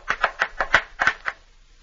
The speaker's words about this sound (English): His new boots made a clippity-clap as he danced over the cobblestones. And the giant servant ran to the door to see what could be making such a strange noise.